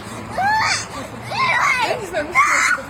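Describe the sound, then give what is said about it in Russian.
Children's high-pitched voices scream and wail continuously under the windows, overlapping shrill cries that rise and fall with an outdoor quality and a steady background hum. “А вы считаете это нормально, да, что они тут под окнами кричат уже минут 10?”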